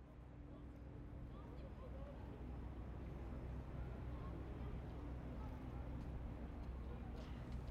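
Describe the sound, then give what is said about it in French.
A steady, deep drone of an ocean liner's engines, heard by a passenger aboard, hums continuously with a low tonal throb beneath a broad wash of wind, unchanging in loudness from start to finish. “J'entends comme un bruit de fond, au-delà du souffle, du vent, le ronronnement des moteurs.”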